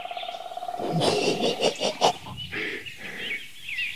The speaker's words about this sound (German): Das heißt, die Vögel singen nicht mehr so durchgehend und regelmäßig. Da, der Ruf zieht, zieht, zieht, zieht.